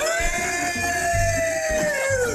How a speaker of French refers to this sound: C'est le cerf qui est là, tu vois, c'est le brame du cerf.